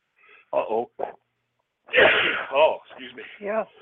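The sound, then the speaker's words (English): A single sharp sneeze bursts out partway through, with people talking just before and right after it. “Bless you.”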